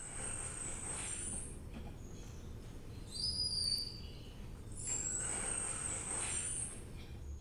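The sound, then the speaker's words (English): Whistles of the Yangtze River dolphin (baiji), a species now extinct: three bursts of thin, high-pitched, steady tones, the middle one shorter and doubled, over a constant low rumbling underwater hiss. “This is the Yangtze River dolphin, or the Baiji, which is extinct on the planet, but you can still find it on the internet.”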